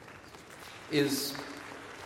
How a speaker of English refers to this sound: That's called a smattering of applause.